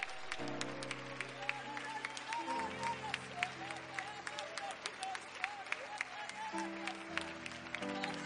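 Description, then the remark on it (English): An audience claps steadily and densely with all their might while scattered voices shout and cry out in praise over it. Sustained low keyboard or organ chords hold underneath throughout. “One more time, would you put your Bibles down, and all over this place, would you clap your hands with all of your might? And somebody, would you truly let out a great shout?”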